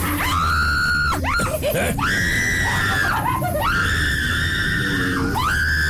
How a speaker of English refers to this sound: Looks like we're in the haunted bayou. I'm gonna start hearing you scream.